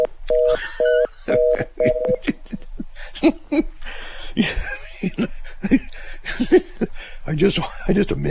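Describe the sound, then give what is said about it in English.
A telephone line tone after a hang-up: four short, evenly pulsed beeps, clear and fairly loud, followed by people talking and laughing. “I just imagined his eyes rolling back in his head, losing consciousness, shaking, and that phone hangs up.”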